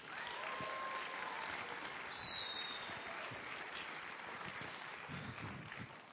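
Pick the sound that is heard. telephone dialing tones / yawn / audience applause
audience applause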